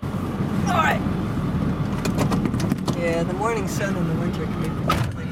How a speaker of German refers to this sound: in ihrem Dieseltruck, ein Riesending, und wir fahren über das weite Feld zwischen Fichtenwäldern